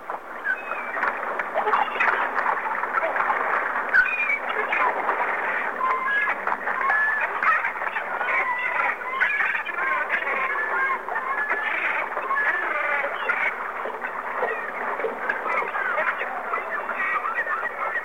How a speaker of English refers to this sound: To hear seagulls, press 3. Seagulls.